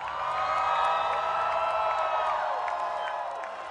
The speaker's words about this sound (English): The Tisza party and Hungary won this election, he told the cheering crowd.